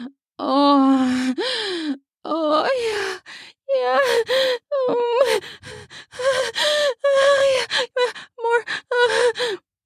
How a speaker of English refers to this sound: My pussy swallows it as we both groan out.